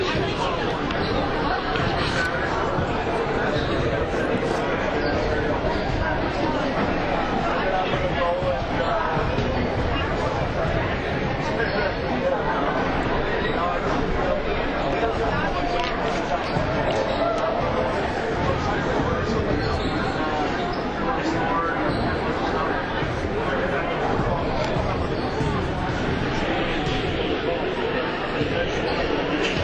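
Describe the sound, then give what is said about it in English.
Steady crowd chatter fills the D.C. Everest Fieldhouse at halftime of a Marshfield vs. D.C. Everest boys basketball game, a dense, unbroken babble of many overlapping voices at moderate loudness with no single voice standing out, holding evenly throughout. “Everest crowds looking for more to cheer about, and the Evergreens are spending an extended time in the locker room.”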